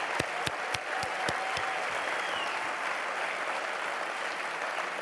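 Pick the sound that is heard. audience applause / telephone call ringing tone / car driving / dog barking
audience applause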